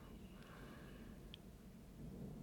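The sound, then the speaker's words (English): A faint, low rumble of thunder rolls steadily for a couple of seconds, deep and muffled, with no voices over it. “Oh, is that thunder?”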